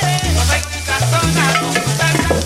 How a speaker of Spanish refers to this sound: Y ojo que se quema la arepa de huevo, ¿eh? Así que no me la dejes